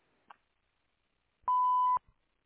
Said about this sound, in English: You have reached P&J Florist. Unfortunately, we can't get to the phone right now, but if you leave your name and number after the beep, we'll get back to you as soon as possible.